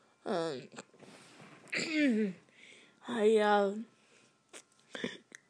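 throat clearing

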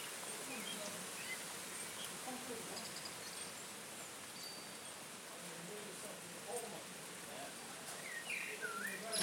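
blackbird singing

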